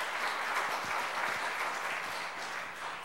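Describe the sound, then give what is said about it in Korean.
A church gathering of people claps steadily to thank an invited guest elder of Daegu First Church, a dense, sustained patter of applause at moderate volume that holds for the whole few seconds without voices. “우리 제1교회 아버님도 장로님 또 부자가 장로님으로 된 몇 안 되는 가정이라고 말씀 제가 지난번 찾아뵀을 때 소개를 받았는데 한번 박수로 감사를 청하겠습니다.”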